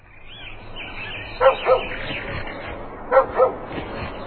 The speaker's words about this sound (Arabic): ولذلك نهض الكلب من مكانه وبدأ ينبح وينبح وهو سعيد بما قام به رياض